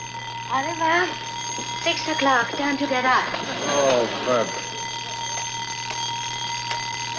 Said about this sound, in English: Oh, that darn alarm clock. You can stop ringing now.